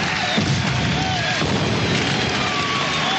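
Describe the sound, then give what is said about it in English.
Fireworks set off by the official Olympic fireworks team explode in a dense, continuous barrage, with loud booms and crackling bursts blending into a steady roar. “The official Olympic Sky Show fireworks team.”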